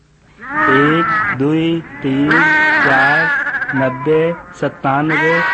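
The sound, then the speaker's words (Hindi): A run of loud sheep bleats, five or so wavering, quavering calls in quick succession with brief gaps between them. “छोटी भेड़ खोए गए तथा बहुत घबराए गए।”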